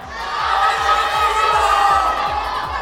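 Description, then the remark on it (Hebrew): A large crowd shouts the words loudly together, competing for prizes over who shouts loudest, in a sustained, dense roar of many voices, steady for a few seconds, with a low rhythmic thumping underneath. “פרסים, עוד פרסים, חגורות, עניבות וחפתים, רק שנייה, אני רוצה לראות מי צועק הכי חזק את המילים.”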